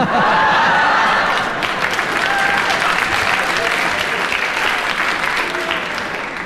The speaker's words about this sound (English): They heartily applauded, and the only thing I can do is they applauded so loudly, I have to agree.